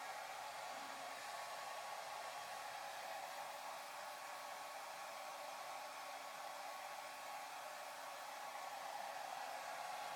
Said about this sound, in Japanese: では最後にドライヤーで乾かしましょうか。根元から丁寧にと。